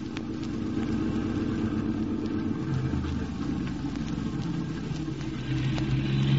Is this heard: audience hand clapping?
no